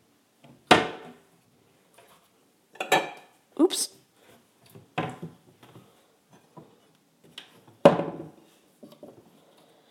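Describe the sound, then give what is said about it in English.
Kitchen cupboard doors in an apartment kitchen opening and shutting in an irregular series of sharp wooden clacks and thuds, several in a row with one loud slam late on; a voice briefly exclaims. “Anyhow, I'm standing in my apartment's kitchen to start with, where we have various and sundry cupboard doors.”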